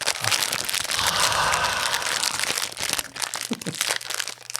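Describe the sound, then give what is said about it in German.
A plastic wrapper of a fortune cookie with sayings in German and English crinkles and crackles as it is torn open, a dense, steady rustle for several seconds that breaks into sharper, scattered crackles at the end. “Warte, wir machen ihn jetzt auf.”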